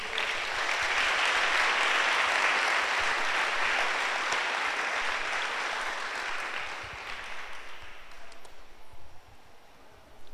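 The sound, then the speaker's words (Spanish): An audience breaks into sustained applause for God, a dense wash of many hands clapping that holds steady for several seconds, then gradually thins and fades toward scattered claps at the end. “Le damos un aplauso a Dios.”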